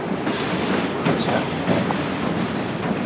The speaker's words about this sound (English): She still gives tours pretty often, though she says this was the first time a train actually drove by during one.